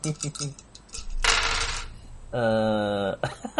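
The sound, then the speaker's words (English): A short burst of six dice clattering and tumbling across a hard tabletop, landing on 1, 1, 2, 3, 5 and 6, lasting about half a second and fairly loud, with people talking before and a sustained hum-like voice sound after. “I've got six dice, how? Okay. How do none of them match?”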